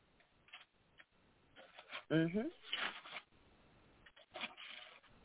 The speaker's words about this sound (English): I'm turning pages.